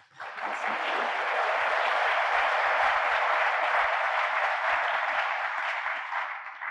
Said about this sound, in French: Je vous propose d'applaudir d'abord.